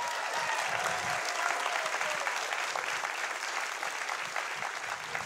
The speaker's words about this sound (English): But just so I can tell them that you clap for them, you mind clapping for them like they are here.